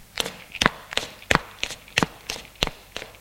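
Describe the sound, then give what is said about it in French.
Footsteps of a man climbing a staircase to the upper floor, about eight firm, evenly spaced steps in a steady rhythm, heard on their own with no voices. “Peu de Vaucroix monte à l'étage.”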